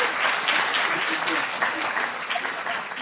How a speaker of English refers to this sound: Please join me in giving our panel one more round of applause.